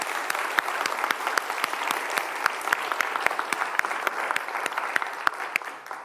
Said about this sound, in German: Und ich finde, wir dürften mal dafür einen großen Applaus geben für die Teams nach draußen.